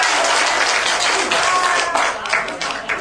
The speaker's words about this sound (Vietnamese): Rồi cô Vũ Hoàng Chương này, vị nào đó trúng rồi lên lãnh phần này. Cho, xin cho tràng pháo tay đó là Vũ Hoàng Sương.